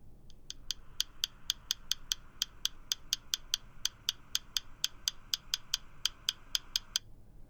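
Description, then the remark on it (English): An unusual woodpecker call: a steady run of about twenty-five sharp, bright clicking notes, evenly spaced at roughly three to four per second, with no voices. “I guess that to be a woodpecker. It is a very unusual sound.”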